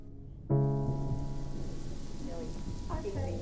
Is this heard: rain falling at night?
yes